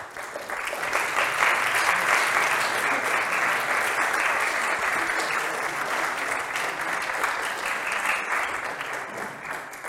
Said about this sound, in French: Je me joins aux applaudissements, aux remerciements. Merci pour cette conférence passionnante, le jeu des questions-réponses également.